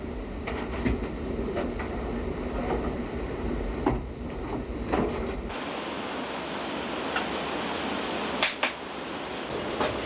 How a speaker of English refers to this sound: During sugaring time in the Northeast, the fires burn in every sugar house. The steam evaporates, and the sound of sap bubbling can be heard.